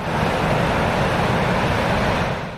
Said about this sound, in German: Gut, das ist dieses Meer, das direkt am Flughafen ist.